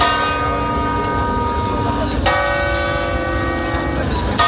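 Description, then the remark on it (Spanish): Church bells toll steadily in mourning for the death of Pope Francis, their rich, sustained tones ringing and overlapping, with a fresh loud strike about halfway through that sets the resonance humming again. “Las campanas de catedrales, parroquias e iglesias se han tocado en señal de luto,”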